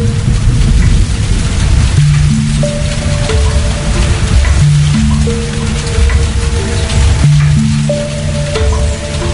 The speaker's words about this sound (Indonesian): Tapi sayangnya, hujan besar tiba-tiba turun malam itu dan memaksa kami semua untuk menunggu sampai reda.